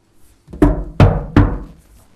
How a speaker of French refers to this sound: quelqu'un a tapé à la porte. C'était son épouse.